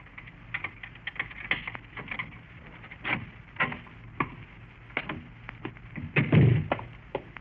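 A heavily built man unlocks an apartment door in a fourth floor hall of an apartment house in uptown New York City, on a winter's day: a key jingles and clicks in the lock with small metallic rattles, then the door swings open with a heavier thump near the end. Fairly quiet, no voices.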